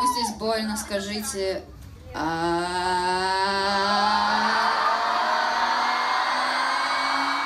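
A concert crowd, asked to shout along if they're in pain, shouts along in loud, ragged bursts, then breaks into one long, sustained collective yell that swells and holds over a wash of noisy cheering.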